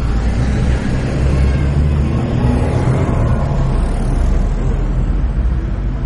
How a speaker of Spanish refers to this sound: Estamos esperando que pasen los autos. Y enfrente.